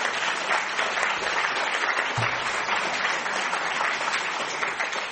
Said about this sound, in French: Les applaudissements, c'était pour la radio, pour dire que la première partie était terminée.